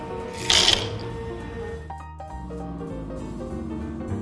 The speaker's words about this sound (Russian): Для супа надо вскипятить воду. Высыпаем макароны.